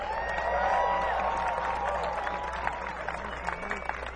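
A crowd breaks into a steady round of applause, with scattered claps and some cheering, while sliding, twangy string notes ring out over the clapping.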